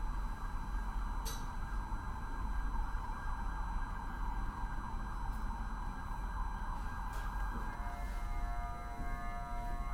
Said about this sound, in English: Sound of the ambulances when other people are kind of not letting them go because they want to go where they want to go.